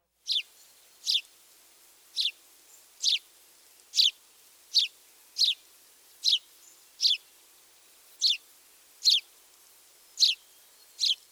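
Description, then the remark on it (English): A house sparrow's song: a long run of bright, evenly spaced chirps repeated roughly once a second, clear against a quiet background. “Here's the house sparrow song again.”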